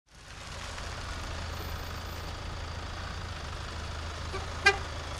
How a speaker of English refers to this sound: A FedEx truck pulled into the Washoe County Health District's parking lot first thing in the morning, greeted by a sidewalk crowded with press. It wasn't a grand entrance of any sort.